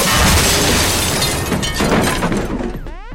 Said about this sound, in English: Cannon is destroyed.